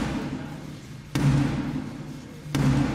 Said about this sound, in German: Erstmals seit 650 Jahren klopfte eine Frau, Sarah Clark, als Black Rod an die Tür des Unterhauses